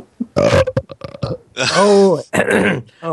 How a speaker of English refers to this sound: who's burping?